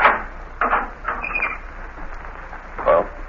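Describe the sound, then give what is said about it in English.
A few metallic clunks and rattles as a guard turns the lock of a prison door on the warden's order, then a brief high creak of the heavy door swinging open, with a final clank near the end; no one speaks. “Unlock the door, Gus.”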